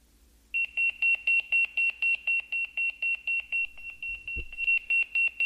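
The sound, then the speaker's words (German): A Motorola Pageboy 2 pager, set as an alarm clock, beeping in a fast, steady rhythm of short, high-pitched electronic tones, loud, continuing for several seconds with a brief thump near the end. “Voilà, der tote Wertgereich vom Motorola Pageboy 2. Und Motorola Pageboy 2 hat einfach gepiepst.”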